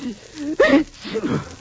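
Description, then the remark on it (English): A single loud, voiced sneeze from someone suffering from a cold bursts out sharply, with a brief breathy lead-in and a quieter vocal sound trailing after it. “Gesundheit.”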